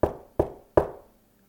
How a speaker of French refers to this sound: Cybelle habite dans la rue d'à côté. Elliot tape à la porte.